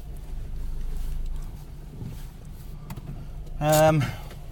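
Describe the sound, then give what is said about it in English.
Low, steady hum inside a Kia Ceed works car, then near the end the air conditioning switches on automatically with a short, fairly loud whirring whine that rises and fades within a second. “The aircon switches on automatically in this works car.”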